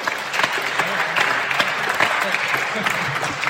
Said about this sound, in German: Applaus nochmal an dieser Stelle.